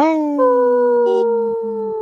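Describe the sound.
Several voices on the radio show Native Roots Radio imitate wolves during a Howling for Wolves segment, letting out a long, loud, sustained howl that slides gently downward in pitch, with overlapping tones layered together for about two seconds.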